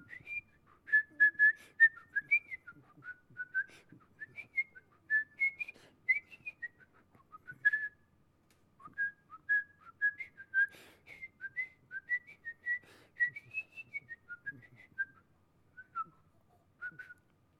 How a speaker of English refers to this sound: He loved to whistle. He taught me how to whistle. Well, he didn't teach me. I learned from him how to whistle. Can you whistle for us?